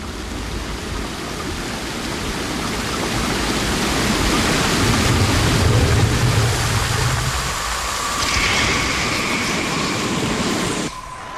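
A bath tap runs in a steady, full rush of water, loud and close, with a faint high tone rising underneath near the end before the flow cuts off abruptly.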